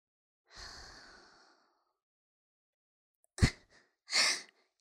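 A long, soft breath is blown out toward the listener and slowly fades, followed after a pause by a short sharp puff and another brief breathy exhale. No talking.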